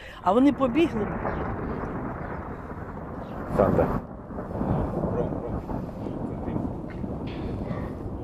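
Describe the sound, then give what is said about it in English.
A deep, sustained rumble of thunder from a passing storm over a small town rolls on for several seconds, steady and fairly loud, with brief human voices cutting in near the start and again midway. “The storm, unlike Russia's bombardment, soon passes.”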